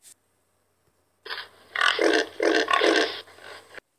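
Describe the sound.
A voice imitates a pig, making about three loud grunting snorts in quick succession after a short breathy lead-in, with no other talking.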